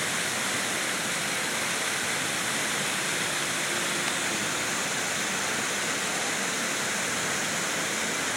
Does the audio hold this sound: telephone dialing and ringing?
no